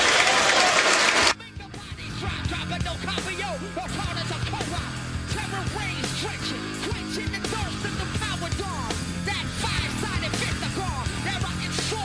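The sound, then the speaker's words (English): A large arena crowd at an NBA basketball game involving the Celtics gives a long standing ovation for both teams, a dense roar of clapping mixed with cheers and shouts that holds steady and loud for the whole stretch, with no one speaking over it. “Standing ovation here from the crowd for both teams who are treating this just the right way.”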